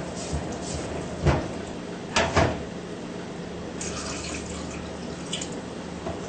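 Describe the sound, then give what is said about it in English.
Almost 1 liter of water pours steadily and gently into a bowl of flour mixture made with 650 grams of flour, a soft continuous splash, broken by a few brief clunks and knocks of the container. “Now we add water into the mixture of flour and stir well.”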